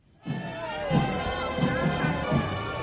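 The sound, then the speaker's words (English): A large, tightly packed crowd of mourners at the funeral procession in Iran for President Ebrahim Raisi, greeting the open-sided truck carrying his coffin, fills the air with a dense roar of many voices, with rhythmic low thuds pulsing underneath, as if from chanting or beating, from start to finish. “Tightly packed crowds turned out to greet the open-sided truck carrying the body of President Raisi, Iran's foreign minister, and the six others who also died in the crash.”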